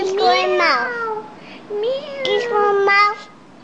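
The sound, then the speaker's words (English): A child imitates a cat's meow twice, two drawn-out, sing-song vocal calls with gliding pitch, fairly loud, with a short pause between them. “And what does the cat say?”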